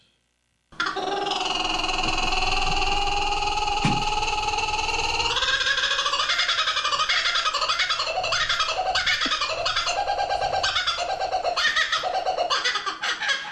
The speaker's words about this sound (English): We're not making this up. The Tarzan bird. There's a reason Australia is on the other side of the planet. It's a kookaburra. It certainly is. Oh, and this bird is great.